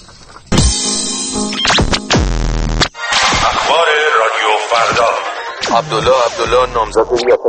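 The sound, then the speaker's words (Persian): Harsh radio jamming static on a Radio Farda broadcast roars loudly in bursts, dense hiss cut by abrupt gaps, then shifts into warbling, wobbling tones and garbled, choppy interference that keeps fluttering until the end. “پارازیت گوشاتون رو آزار میده؟”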